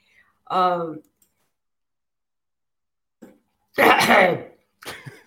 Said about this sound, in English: while I'm coughing my lungs out